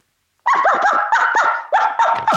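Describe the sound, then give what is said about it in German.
A person imitates a dog's barking with a quick, loud run of about half a dozen yapping barks, with no talking around it. “Hier kommt das erste Geräusch. Ist das ein Hund oder ein Mensch?”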